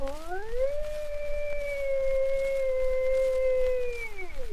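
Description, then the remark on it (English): A young bull elk on the Elk Range in October, the mating time, whistles once, a thin tone that slides up, holds steady for several seconds, then drops away at the end, heard alone over a faint hiss. “No, that is the whistle of a youngster, not yet arrived at his strength.”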